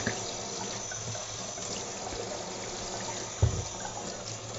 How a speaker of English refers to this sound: And so I want to take a minute to wash up my dishes.